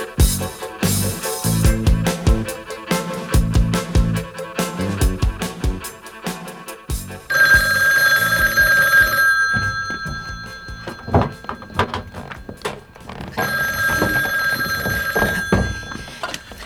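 An old-fashioned telephone bell rings in two loud, metallic bursts with a pause between them, preceded by a few dull thumps and clatter; no one speaks.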